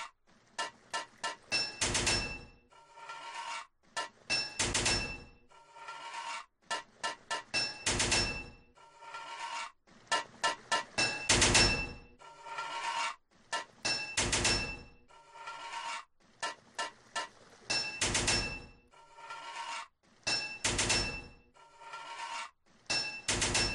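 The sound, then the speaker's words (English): Repeated bursts of metallic, ringing hammer clanks from a pipe-fitting video game, with three hammer hits needed to fit each pipe, struck in quick clusters against a pipe and continuing steadily with short pauses between groups. “3 hits of a hammer to fit a pipe.”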